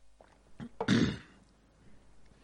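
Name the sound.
coughing and throat clearing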